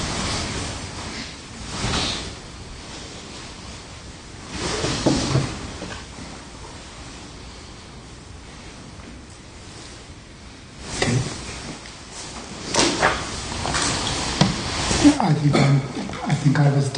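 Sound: door being closed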